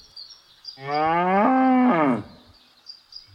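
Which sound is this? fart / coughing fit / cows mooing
cows mooing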